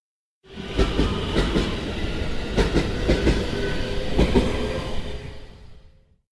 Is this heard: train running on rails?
yes